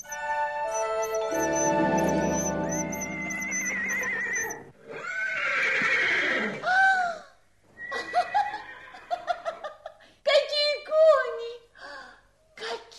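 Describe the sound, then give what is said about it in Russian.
Several loud horse whinnies ring out one after another, high and quavering, following a bright, sustained shimmering tone at the start; no one speaks. “Какие кони! Можно ехать, тетушка, можно ехать.”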